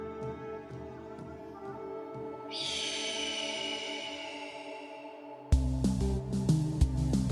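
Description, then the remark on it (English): A shrill, high-pitched eagle scream holds steady for a few seconds over a low rumbling background, then gives way to loud, clattering percussive hits. “We hear your mighty scream, echoing the strength of the ages for all to hear.”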